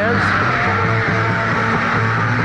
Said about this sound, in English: I don't know if you're able to distinguish any of the sounds other than the shouting